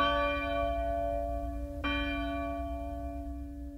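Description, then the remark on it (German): A church bell in a church bell tower rings out with a deep, sustained hum, struck again partway through so its resonant tone swells and keeps ringing. No voices, just the bell, steady. “Und die Glocke läutete und läutete und läutete und vertrieb die Tauben auf dem Glockenturm der Kirche.”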